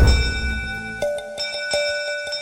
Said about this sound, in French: À 13h35, les deux femmes sortent de l'hôtel Beau Rivage et pressent le pas pour se rendre au bateau à vapeur, car ce dernier, prêt à lever l'ancre à 13h40, a déjà fait sonner sa cloche à 2 reprises.